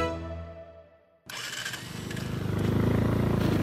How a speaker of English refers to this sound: Mounted on his TVS model motorcycle